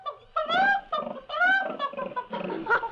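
A live pig grunts and squeals in five or so quick bursts, loud and nasal, each note sliding in pitch, with no talking underneath.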